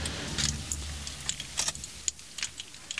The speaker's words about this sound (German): Klapperdiklipp, klapperdiklapp. Was ist denn mit dem Motor los? Da klappert doch was. Moment mal.